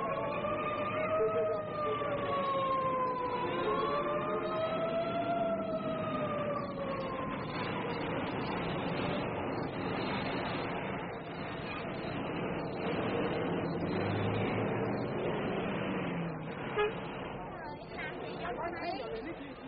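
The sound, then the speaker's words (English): Dense street noise in Saigon, Vietnam, fills the scene, with a wailing siren sweeping up and down early on over constant traffic rumble and chatter from sidewalks swarming with people and vendors, voices mixing into the steady din throughout. “And the sidewalks, swarming with people, cluttered with the wares of the sidewalk vendors, awash in the strange smells and sounds of Saigon.”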